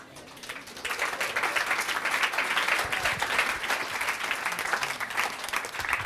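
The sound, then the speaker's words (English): A crowd breaks into sustained applause for people who had just shared, many hands clapping in a dense, steady patter that swells within the first second and holds at an even, fairly loud level throughout. “Let's give them another round of applause for these guys sharing.”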